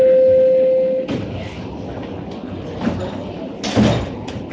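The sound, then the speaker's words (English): A steady warning tone cuts off, then subway train doors slide shut amid rumbling carriage noise, with a soft thud and a heavier clunk as they close, moderately loud. “Please stand clear of the doors.”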